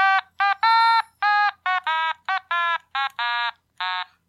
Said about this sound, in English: Damn it, that alarm always goes off at the worst times.